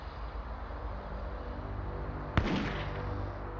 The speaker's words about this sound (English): Then, early on May 20th, 1988, a gunshot shattered the morning silence.